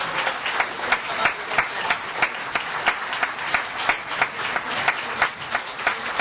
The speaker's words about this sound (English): And let's give him a wonderful, rousing applause.